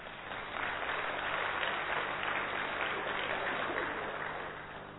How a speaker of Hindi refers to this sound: आपको पता है ये? अपने लिए तालियां तो बजाओ।